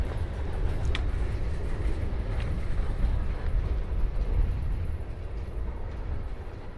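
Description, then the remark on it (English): A train rumbles steadily along the rails, a continuous low roar with a few faint clicks and clanks, easing slightly near the end. No one speaks. “So from the train to here”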